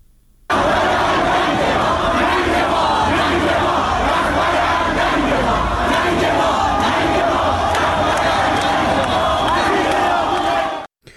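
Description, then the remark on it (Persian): A large protest crowd in the streets of Tehran chants slogans against Islamic Republic officials, protesting the IRGC missile strike on a Ukrainian passenger plane; many voices loud and rhythmic, rising together in repeated shouted phrases that carry on without pause for about ten seconds. “گزارش های دریافتی از ایران حاکی است که گروهی از معترضان به شلیک موشک سپاه بازداران به هواپیمای مسافربری اوکراینی شامگاه دیروز در سرک های تهران تجمع کردند و علیه مقام های جمهوری اسلامی شعار دادند.”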